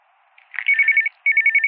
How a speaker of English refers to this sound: What the hell? Who's calling Morrison at 5 o'clock?